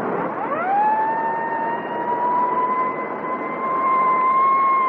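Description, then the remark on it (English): A police car siren winds up quickly and then holds a long, steady wail, loud, over a constant roar of engine and road noise as the police car chases a speeding car doing at least 80. “You better have the siren, Barclay.”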